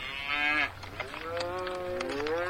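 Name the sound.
cow mooing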